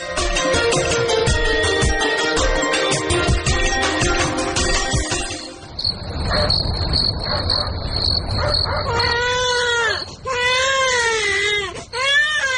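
Following a passage of music, a baby who has been sick for several days cries in repeated loud, rising-and-falling wails over a steady high insect-like chirring.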